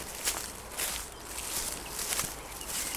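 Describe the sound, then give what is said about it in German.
Soft, steady footsteps swish through grass at an unhurried walking pace as people follow a fox trail through the grass, each step a brief rustling brush, fairly quiet, with no voices. “Und dem laufen wir jetzt einfach mal hinterher, würde ich sagen, und schauen.”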